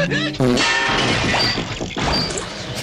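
A loud, chaotic crashing sound effect standing for the Truth Social servers crashing: a jumble of clanking, smashing metallic noises and warbling electronic tones piling up continuously for a few seconds, dense.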